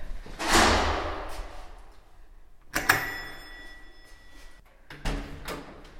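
A building's front entrance door being opened from inside on a slightly windy day: three loud clunks and knocks spaced a couple of seconds apart, the middle one followed by a brief metallic ring, with no voices.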